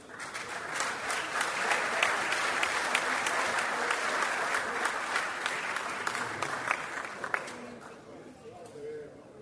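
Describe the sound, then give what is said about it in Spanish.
Sustained applause from an audience for the mayors of the Montevideo department and their teams, a dense steady patter of many hands clapping that holds for several seconds before thinning out toward the end. “Por el departamento de Montevideo, llamamos a los alcaldes que se encuentren presentes con sus equipos. Un aplauso.”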